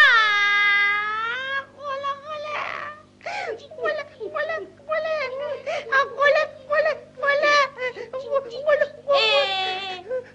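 Someone cries loudly, with long wavering wails at the start and end broken up by choppy, sobbing bursts in between.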